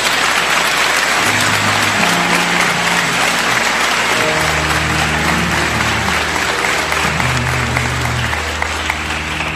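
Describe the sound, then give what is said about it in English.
An audience at a graduation ceremony applauds steadily for several seconds, a dense, loud wash of many hands clapping at once, with a low hum running underneath. “But let's give them another hand.”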